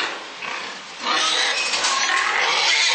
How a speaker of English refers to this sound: And then you hear the pigs. And they just...